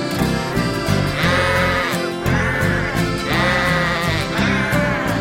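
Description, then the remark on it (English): Wavering, bleating sheep-like cries rise in two bursts over steady, full musical accompaniment, loud, sounding like voices imitating sheep within a song. “That is what sheep say.”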